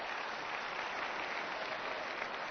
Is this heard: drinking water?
no